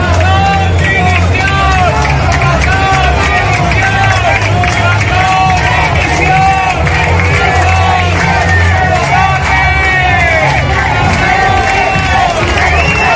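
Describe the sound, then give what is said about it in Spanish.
A large crowd in the Plaza de Luceros in Alicante, during the Hogueras festivities, shouts loud, overlapping chants at president Carlos Mazón, such as "Mazón, dimisión", "asesino" and "mentiroso", many voices yelling together in an open space, a constant roar of agitated voices with no pauses. “Lo oyen gritos de Mazón, dimisión, alternados con los de asesino, mentiroso y otros de presidente.”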